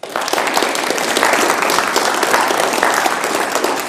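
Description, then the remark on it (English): A church audience breaks into sustained applause for the church's ministry team leaders: dense, steady clapping from many hands, fairly loud throughout, with no voices standing out above it. “I think we could applaud them.”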